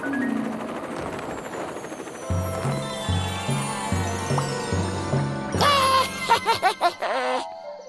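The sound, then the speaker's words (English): Cartoonish helicopter blades on a cartoon pterodactyl whir in a steady, rhythmic low chop for a few seconds, fairly loud, before bright jingly tones and giggle-like bursts take over near the end. “Has a long beak and great wings and helicopter blades.”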